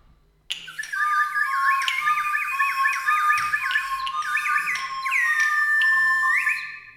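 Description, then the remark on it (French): Rapid, high-pitched hummingbird chirps and twittering trills run almost without pause for several seconds, fairly loud, with no voices; a hummingbird in a forest. “Il y a le colibri.”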